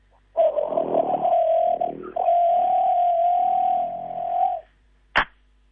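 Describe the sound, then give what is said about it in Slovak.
A person's voice imitates a forest bird's churring call: a long, steady whirring trill with one brief break in the middle, followed after a pause by a single sharp click. “No a ja teraz pokúsim sa ten zvuk napodobniť, ako to tak vrčí.”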